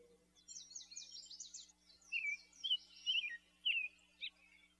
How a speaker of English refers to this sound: Outside, the birds fly around the feeder.